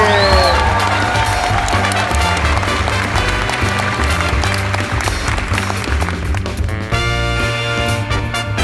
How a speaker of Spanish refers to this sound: Griten bien fuerte para recibir a Valesca y Ugalde.